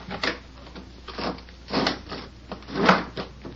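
A wooden window is shoved open in several rough, scraping pushes, the frame grinding and thumping in uneven bursts, moderately loud, with no voices.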